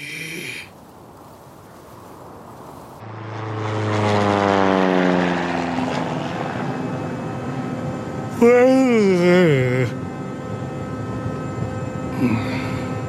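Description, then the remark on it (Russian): After a quiet opening, a propeller airplane's engine rises into a loud, steady droning hum with shifting harmonic tones. A brief wavering whine cuts in near the end. “В самолетах меня почему-то вечно клонит в сон.”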